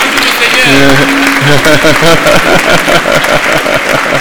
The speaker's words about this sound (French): Et je vous demanderai de l'applaudir quand même. Je vais vous dire pourquoi.